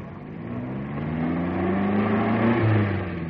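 A car engine rumbles steadily, then climbs in pitch as it accelerates and pulls away, the low droning hum growing a little louder over a few seconds with no voices.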